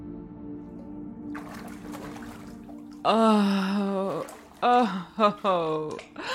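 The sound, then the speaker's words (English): Soft water sloshing and splashing as someone settles into a warm bath after a shower, over a faint steady hum, followed by a voice letting out several loud, drawn-out sighs and gasps. “Now that we're done with the shower, it's bath time.”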